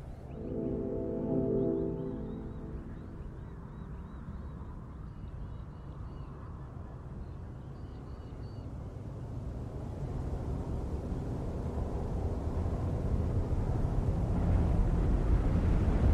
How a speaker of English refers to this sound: You hear animal sounds gradually disappear. They're taken over by the sounds of what seems to be distant traffic and other human machinery. And then the wind starts to come into the recording more.